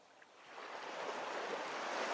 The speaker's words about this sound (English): You can hear the sounds of the ocean lapping onto the beach.